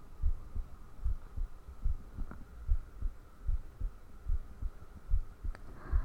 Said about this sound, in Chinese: 能听见我心跳吗？